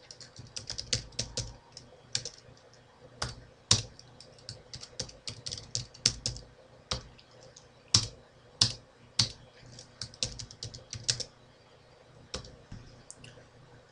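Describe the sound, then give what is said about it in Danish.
Steady typing on a computer keyboard while entering new contacts into a list, clear, with irregular bursts of sharp key clicks and a few louder keystrokes standing out. No one speaks. “Du hopper ned på tilføj ny kontakt og trykker på enter, og så er du klar til at skrive den næste.”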